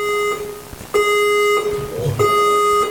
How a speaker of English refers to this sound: Fire alarm. I actually think it's coming from the second floor, so don't worry about it.